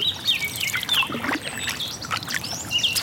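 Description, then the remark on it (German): Paddle strokes of a canoe paddling upstream on a river splash and swish through water, with a steady watery wash underneath, while birds chirp and trill brightly in the background. No one speaks. “Wir paddeln weiter, stromaufwärts bis zur Rommelsmühle.”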